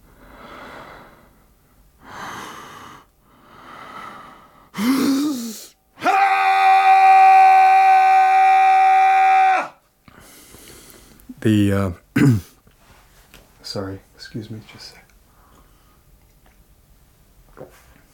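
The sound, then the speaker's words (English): A man breathes heavily, then lets out one loud, sustained, raw primal scream lasting a few seconds, classed as an air, male, primal, bardo scream, followed by ragged gasps, panting and short strained vocal grunts. “It's an air, male, primal, bardo scream.”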